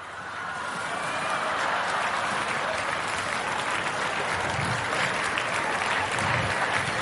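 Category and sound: crowd, audience applause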